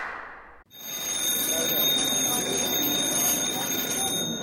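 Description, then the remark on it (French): On France Musique radio, after a brief hiss, a shrill electric ringing tone announcing Roselyne Bachelot's segment bursts in and rings continuously at a steady high pitch, fairly loud, over a dense background murmur of voices. “Et cette sonnerie annonce l'heure de la chronique de Roselyne Bachelot.”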